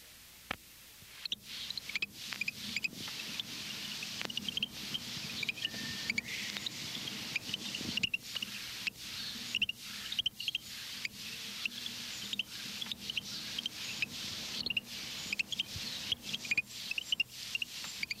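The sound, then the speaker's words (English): A Florida frog that lays its eggs on land gives a quiet, insect-like chirping call, repeating in rapid, irregular bursts for the whole stretch, thin and high, over a faint steady background hiss. Nobody speaks. “Its call is a quiet, insect-like chirp.”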